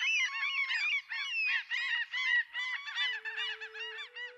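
A noisy chorus of common gulls calling over one another, loud, with overlapping mewing cries that continue without pause; a faint steady drone joins near the end.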